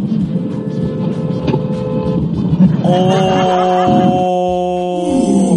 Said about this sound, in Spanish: Oye, pero esa bocina, esperemos que no haya pasado nada